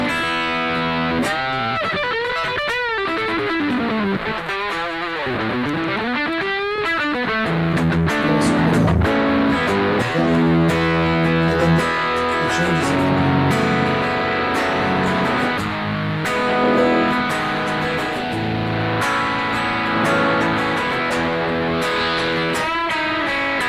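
A heavily overdriven electric guitar plays continuously and loudly, its gritty distorted tone sweeping and shifting in character as it rings out, with no voices; the distortion comes from the amp's preamp and power amp at 7 watts, recorded direct.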